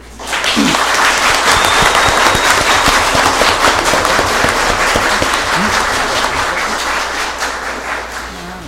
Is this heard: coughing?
no